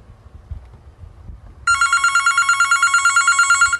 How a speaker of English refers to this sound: There you get to hear what a phone sounds like.